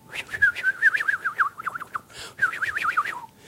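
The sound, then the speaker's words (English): Birds call in quick, warbling bursts, a run of bright chirps, a short pause, then another burst, clear against a quiet outdoor background. No one speaks. “The birds are going.”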